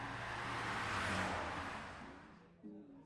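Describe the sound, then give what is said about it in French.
A vehicle engine rumbles along a road leading to a school at daybreak, its broad whooshing drone swelling steadily then fading away over a few seconds, with a low humming tone underneath and a brief bump at the end. “À quelques kilomètres de là, dans le jour naissant, sur une route menant vers l'école, le bruit d'un moteur.”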